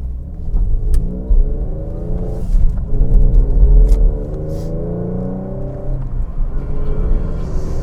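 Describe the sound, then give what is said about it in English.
A car pulls away from a green light and accelerates, its engine revving up steadily with a couple of brief dips at gear changes. The engine sounds loud throughout, with no talking. “Let me see if I can remember how to toss this car around here.”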